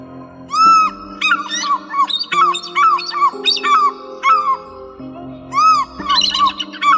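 A bird gives a rapid run of loud, harsh squawking calls, each a short rising-and-falling screech, repeated in bursts over a steady low humming tone with no talking.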